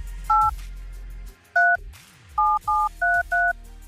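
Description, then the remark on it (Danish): Six crisp telephone keypad tones beep one at a time as a phone number is dialled, a lone press followed by a pause, then a quicker run of five, clear with no talking. “Det var et nemt nummer, kunne jeg se.”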